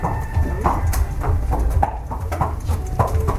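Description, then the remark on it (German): A racehorse stallion's hooves clip-clop at a steady walking pace as it is led back to the stable after winning the first race at a racecourse among hilly tea plantations in central Sri Lanka, the hard regular strikes clear over a low, continuous outdoor rumble. “Der Hengst Elixir hat eben das erste Rennen gewonnen und wird zurück in den Stall geführt”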